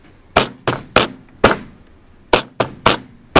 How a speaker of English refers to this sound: This is I'm trying to show you how they did it. They bang three times on the metal, and the one time they bang with the hammer here to straighten things out.